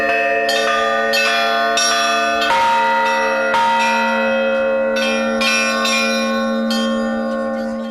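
Festive church bells peal continuously at the close of a church celebration, with anyone wishing able to join in the ringing, several bells striking in overlapping succession with rich ringing overtones. The chiming is loud and sustained, with no voices heard.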